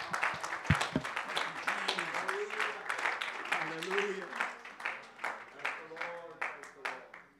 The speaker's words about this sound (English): Would you clap your hands unto the Lord?